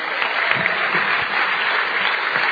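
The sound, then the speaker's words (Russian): A large crowd applauds steadily as applause given to God, dense overlapping claps at a fairly loud level for the whole stretch, with no voices standing out. “Подари Богу аплодисмент.”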